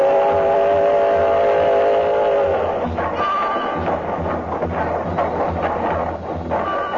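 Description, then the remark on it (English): A wood-burning steam locomotive engine chugs loudly, a continuous rumbling churn with a steady droning tone during the first couple of seconds before the mechanical noise takes over. “This here engine eats up wood like it's striped candy.”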